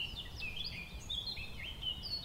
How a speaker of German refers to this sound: Das ist wieder die Mönchsgrasmücke.